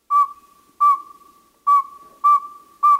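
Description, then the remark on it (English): A male northern saw-whet owl gives its advertising call: five clear, whistled hoots on one steady pitch, spaced a little under a second apart, loud with no other sounds. “Listen carefully to the pacing of their hoots.”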